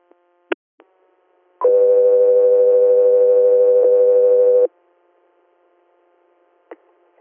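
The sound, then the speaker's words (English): Radio dispatch alert tone for Coast Riviera: one loud, steady electronic beep held for about three seconds, framed by sharp radio clicks before and after, with near silence otherwise. “Coast Riviera, stand by for tones.”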